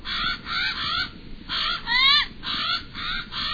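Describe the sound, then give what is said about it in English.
A Hawaiian crow (Alala) gives a series of harsh, rasping caws with a few wavering, upslurred notes, repeated roughly every half second over steady low background noise, with no talking. “This is the voice of a bird held sacred in traditional Hawaiian culture.”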